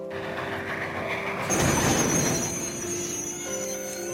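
A train pulls in at Kami-Shirataki Station, a village station in Hokkaido, Japan, at exactly 7 a.m., its engine humming steadily before a surge of rumbling and a sustained, high-pitched brake squeal as it slows to a stop.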